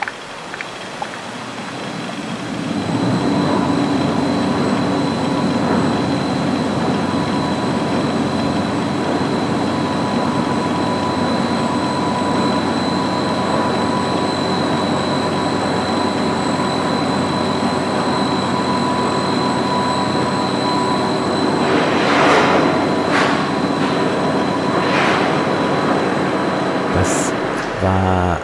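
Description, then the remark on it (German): Heavy stage machinery at the Staatsoper Unter den Linden runs in a steady low mechanical rumble with a constant hum and faint high whine, ending in a few brief squeals and clanks as the orchestra pit is lowered. “Das waren die Maschinengeräusche aus der Staatsoper unter den Linden, die erklungen sind, als das Orchester eben nicht ganz sang- und klanglos versenkt”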